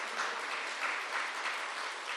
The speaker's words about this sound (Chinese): 好棒，他们真是好样的，是吧？你们要拍手就拍大声一点，对吧？